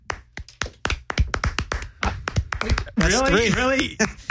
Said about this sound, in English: Really? One clap. Hang on, let me get one more.